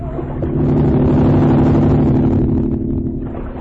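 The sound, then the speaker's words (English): The engine of a driverless motorboat heading toward people in the water drones loudly and steadily, its low throbbing rumble swelling in the first half-second and then holding strong throughout, with no voices. “that driverless boat, it's heading toward us again.”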